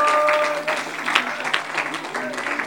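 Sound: audience clapping hands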